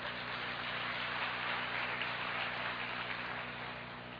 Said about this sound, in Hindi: तालियां तो बजाओ।